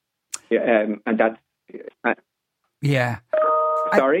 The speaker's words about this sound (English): That's something chiming there.